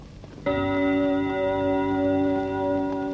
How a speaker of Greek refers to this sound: Το πέμπτο χτύπημα του ρολογιού.